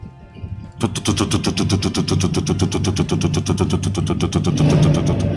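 A Honda CG motorcycle engine kicks in after a brief quiet moment and keeps running loud, a rapid steady putter that swells slightly toward the end.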